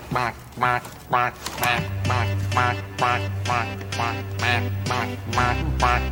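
A duck quacks over and over in a steady, evenly spaced rhythm, about nine loud nasal quacks in a row, with a low droning hum coming in underneath partway through.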